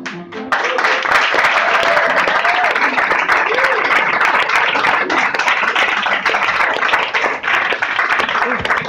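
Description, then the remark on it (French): An audience breaks into loud, sustained applause for two performers after a sung goguette, a dense wash of many hands clapping that stays steady throughout, with a few faint voices and cheers mixed in. “On applaudit bien fort les deux.”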